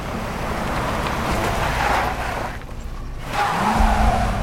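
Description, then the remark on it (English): A station wagon's engine rumbles with gritty tire noise as it reverses onto a grass verge, dust billowing from the back wheels, eases off briefly, then revs up loudly as it speeds off down the lane, rustling foliage. “Dust billows from the back wheels as the station wagon reverses onto a grass verge, then speeds off down the lane, rustling foliage in its wake.”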